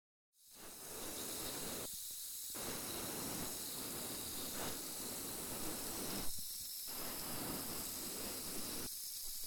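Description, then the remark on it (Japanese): Continuous fizzing crackle of a carbonated cotton swab removing fine debris from the other ear, a dense bubbly hiss that briefly dips quieter a few times, with no talking. “次はこっちも炭酸綿棒で細かいの取り除いていくわ。”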